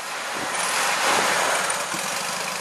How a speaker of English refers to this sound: That's the iconic VW bus to you and me. After 60 years, a company has decided to stop production in Brazil. Yep, they were still making VW buses in Brazil, complete with its familiar rattling engine.